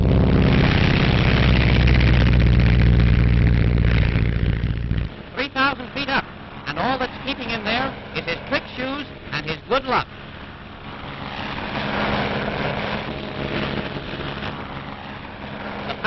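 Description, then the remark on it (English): A propeller airplane engine roars loudly and steadily as the plane takes off carrying a man standing on top of it on rubber suction shoes, then fades back under a man's voice while a softer engine drone continues. “And the takeoff.”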